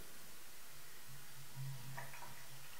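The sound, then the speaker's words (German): Water runs steadily from an opened tap on a communicating-vessels apparatus during a physics demonstration, a soft, continuous hiss of flow that stays faint and even throughout, with a low hum underneath and no voices. “Ich mache jetzt den Hahn auf und dann wird das Wasser rausfließen.”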